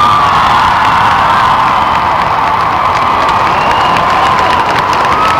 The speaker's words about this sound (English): I want you guys to clap really loud for the next person because she never gets the same amount of applause as the beautiful woman.